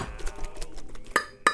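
Tin cans clink and rattle as a dog named Emerson pulls them along, with scattered light clanks followed by two sharper, louder clinks near the end. No voices are heard.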